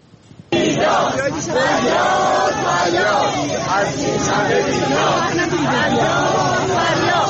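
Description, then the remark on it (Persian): A crowd of protesting retirees chants together in Tehran in front of the Plan and Budget Organization on a Tuesday, in rhythmic, shouted phrases, many voices blending into a dense, steady roar that bursts in abruptly after a brief quiet start. “در اینجا ابتدا ویدیویی داریم از تجمع اعتراضی بازنشستگان در تهران در مقابل سازمان برنامه و بودجه که روز سه‌شنبه انجام شد.”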